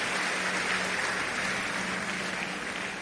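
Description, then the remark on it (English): A church audience claps for a man, a dense wash of many hands applauding together, sustained at an even level throughout with no voices standing out. “You can give him a big, big hand clap.”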